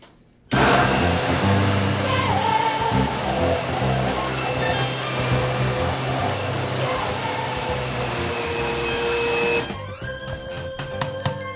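A high-speed blender purees apple butter into a smooth, creamy product, roaring loudly and steadily for about nine seconds with a dense whirring motor, then its pitch and texture change abruptly near the end as it winds down.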